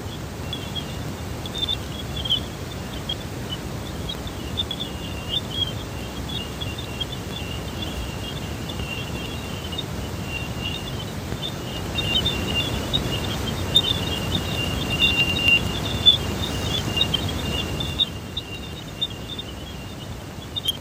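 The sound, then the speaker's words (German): A sonified recording of the planet Jupiter: a continuous stream of thin, high chirps and twitters, like a tiny bird, runs over a steady hiss and low rumbling noise for about twenty seconds, with no one speaking. “Das ist der Klang des Jupiters.”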